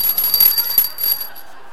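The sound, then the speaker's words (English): A small training bell, used for bell choir practice, rings with a bright, high metallic tone, jingling briefly before the ring lingers and slowly fades. No one speaks. “I'm thinking of joining the bell choir and found my training bell.”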